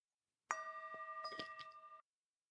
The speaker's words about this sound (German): Danach sitzen wir still einige Minuten auf den Stühlen für die Meditation. Der Gong ertönt.